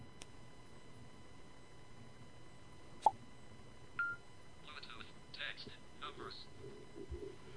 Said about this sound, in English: Okay, so that was hard to hear. My cell phone's plugged in, so I can't have it near the microphone, but it's now prompting me for the code that I gave Pronto earlier.